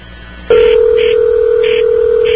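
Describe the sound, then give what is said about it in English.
A telephone line clicks on into a loud, steady tone, with a series of short, evenly spaced beeps repeating over it like touch-tone dialing as a main work number is dialed. No voices, just clear phone tones. “Let me try the main work number one more time.”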